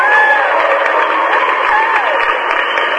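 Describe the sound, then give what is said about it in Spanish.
A crowd applauds steadily for about three seconds, the dense clapping mixed with cheers and a few rising whistles, loud and continuous without a break. “Aplausos para Francisco.”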